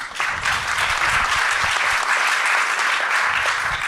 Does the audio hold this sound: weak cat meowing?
no